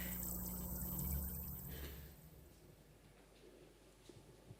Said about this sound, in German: Ja, das war Applaus.